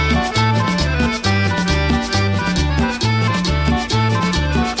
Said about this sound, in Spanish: Y otra vez el acordeón.